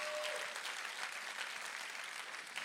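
audience clapping

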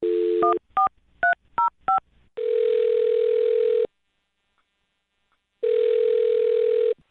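telephone dialing and ringing

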